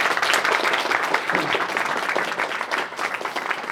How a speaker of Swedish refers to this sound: Tack så jättemycket. Stora applåd.